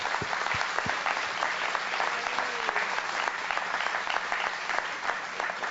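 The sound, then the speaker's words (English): A crowd claps steadily for three youths coming up to share, the dense patter of many hands filling the whole stretch at an even, moderate loudness, with a few sharper individual claps standing out. “Let's give them applause, shall we?”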